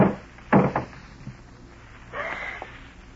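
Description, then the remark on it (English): A garage door is lifted open by hand: a couple of sharp clunks, then a short metallic scraping roll as it lifts, with a faint background hiss and no voices. “A moment later, you slip quietly out the back door, hurry to the garage, and lift the door.”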